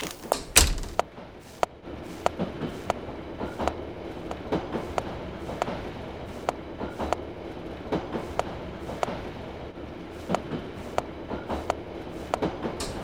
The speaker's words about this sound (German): Oh, warte kurz, der Zug fährt jetzt ab.